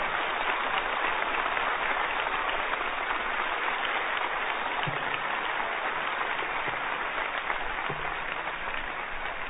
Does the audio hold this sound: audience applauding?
yes